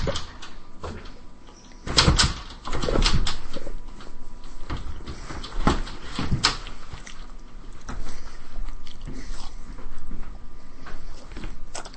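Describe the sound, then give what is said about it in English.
Loud crunching of a snack mixed with crinkling bag rustles, arriving in irregular bursts with a few sharp, heavier crunches, and no talking. “I meant the ones in the bags that are, like, really crunchy.”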